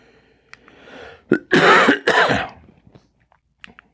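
A loud throat clearing from a tickle in the throat, followed by a couple of harsh coughs in quick succession, with quiet breathing and small mouth sounds around them and no talking.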